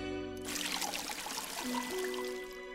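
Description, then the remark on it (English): Water pours steadily for a couple of seconds, a continuous splashing trickle over a soft sustained tonal hum, with no one speaking. “He puts the magic water on the monkey.”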